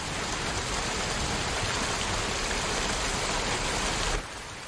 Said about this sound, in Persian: فکر بدی به سرت نزنه، فقط اینجا موندم تا بارون بند بیاد.